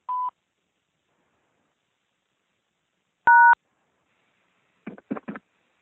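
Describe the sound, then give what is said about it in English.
Telephone keypad tones on an automated phone reminder service while recording a reminder: a brief soft beep, then after a pause a louder two-note dual-tone press, followed by a quick cluster of faint taps or clicks. “To keep this recording, press 1. To change it, press 2.”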